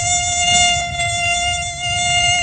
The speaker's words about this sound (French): tu reconnais le bruit, Evan. Effectivement, ils sont envahis par les moustiques.